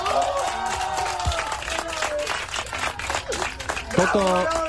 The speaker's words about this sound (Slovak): Toto je ten radostný moment, keď lietadlo pristane na dráhu. Toto bola taká energický potlesk, aplauz. No, v lietadle sa po pristáti tlieska.